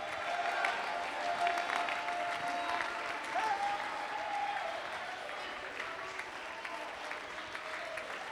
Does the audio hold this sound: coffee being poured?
no